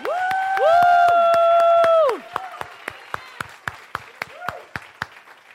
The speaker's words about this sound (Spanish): Estamos aplaudiendo bien. We are clapping good for the Lord.